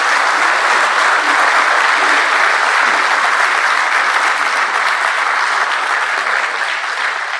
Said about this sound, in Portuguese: Portanto, pedimos mesmo uma grande salva de palmas para todos os fotógrafos, cineastas que estão aqui representados.